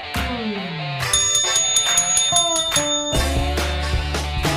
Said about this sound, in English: Aggressive bell ringing, that's what we need on Monday, final Monday of April, the 27th.